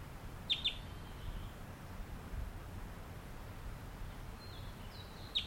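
A few brief, high chirps from a wild bird singing and calling as it flies nearby sound near the start, then a couple more near the end, fairly faint over a steady outdoor hiss and low rumble.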